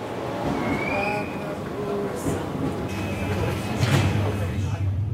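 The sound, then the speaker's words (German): Inside a moving S-Bahn commuter train on the line from Innsbruck to the Brenner, carrying relatively many people: a steady low rumble of wheels and carriage, a thin metallic squeal drifting through, and passengers murmuring faintly in the background. “Und in der bin ich jetzt mit relativ vielen Leuten unterwegs.”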